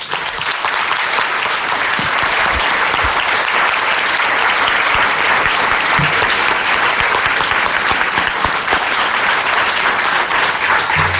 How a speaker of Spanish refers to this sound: Entonces, yo creo que ellas eran sus niñas, porque eran las coordinadoras de los servicios sociales que junto con Carlos Romero contribuyeron a la implantación y desarrollo de los servicios sociales en Fuerteventura. Yo les voy a pedir un aplauso.